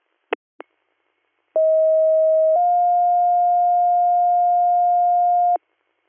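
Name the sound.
radio dispatch paging tones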